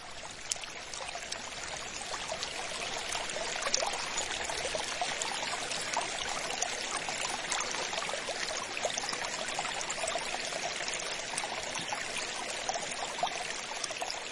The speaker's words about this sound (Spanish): Viste que se llama un río, que es un río chico, baja muy poquito caudal, pero es muy seguro. No, cuando llueve mucho, mejor baja un montón, luego amenora, amenora, pero es muy fiel, no se llega a secar. Yo no lo he conocido nunca seco.